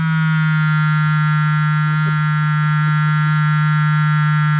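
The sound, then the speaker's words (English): A loud, steady electric buzzing hum from a vibrator holds one low, rough pitch without a break for nearly five seconds. No one speaks. “It's something on vibrate, but it's not a mobile phone. Oh, my God.”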